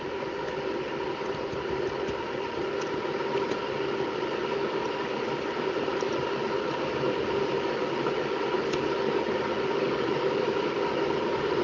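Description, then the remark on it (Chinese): Water boils in a kettle with a steady, rushing roar and low bubbling rumble, holding an even loudness throughout without any voices. “啊，在烧水。”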